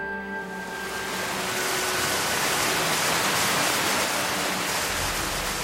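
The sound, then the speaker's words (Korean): A waterfall in a forest near Jamestown rushes loudly and steadily, its dense roar filling the whole scene after a brief fade-in, with a few faint tones lingering at the very start and no voices. “어느 폭포 아래 도착했을 때 가까운 곳에서 누군가의 인기척이 느껴졌다.”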